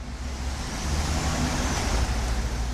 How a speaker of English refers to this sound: At this truck stop in northern Wisconsin, several dozen semis prepare to head out on the open road.